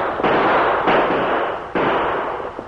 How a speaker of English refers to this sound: Hey, where'd that shot come from? Over there. Boss, at the top of the rise behind us, a rider on a white horse.